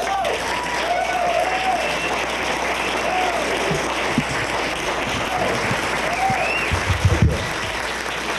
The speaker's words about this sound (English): Would you please give a big round of applause